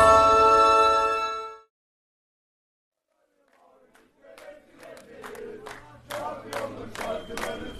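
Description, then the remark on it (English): A sustained tone cuts off into a brief silence, then about 100 Hatay Sport Ultras outside a hotel, with flares and smoke, rise into loud chanting and singing, punctuated by sharp rhythmic bursts like claps or shouted beats, on 26 May, the final match day of the season. “Well, about 100 of them with flares, there's smoke everywhere, and they're singing some amazing songs.”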